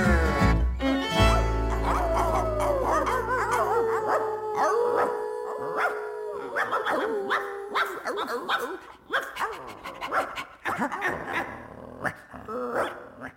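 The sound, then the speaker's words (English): A dog howls in long, wavering, drawn-out tones, then breaks into shorter yips and barks toward the end. “Good dog. Good dog.”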